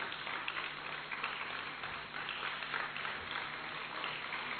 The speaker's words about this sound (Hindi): बहुत ही सुंदर नृत्य प्रस्तुति हम सभी के सामने मेहसाणा सेवा केंद्र की कुमारियों ने रखी। दीदी जी आप सभी का, उनके मेन ट्रेनर का, आप सब की तरफ से अभिनंदन कर रहे हैं। हम इन्हों का अभिनंदन तालियों से करें, हृदय से करें, दुआओं से करें।